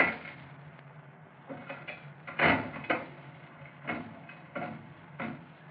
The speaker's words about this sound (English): He's out in the back room now, playing the slot machine.